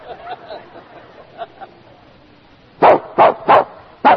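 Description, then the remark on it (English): After a few quiet seconds with faint background noise, a dog lets out four sharp, loud yelping barks in quick succession. “So first he ignores her, and then he calls her, yelp, a dog.”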